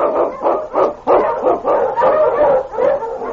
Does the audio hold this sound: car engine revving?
no